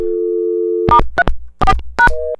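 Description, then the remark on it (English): A steady telephone line tone hums for almost a second, then a quick series of DTMF keypad beeps and clicks as star 34 is dialed on a PBX phone system, ending in another short, higher tone. “But so let's just dial this at star 34 on my system.”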